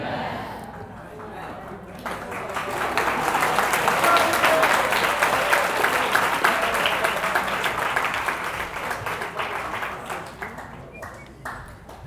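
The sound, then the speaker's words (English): A room full of people breaks into applause that swells over a few seconds, holds steady as dense, continuous clapping, then gradually thins out and fades toward the end. “We shouldn't applaud for that.”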